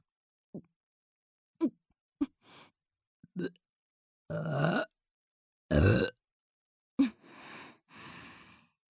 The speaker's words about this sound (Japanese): 生理現象なのでしょうか。どうしてもゲップが出てしまいます。